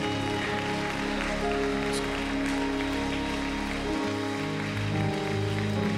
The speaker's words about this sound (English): Praise God. Let's give Him one more hand clap of praise today.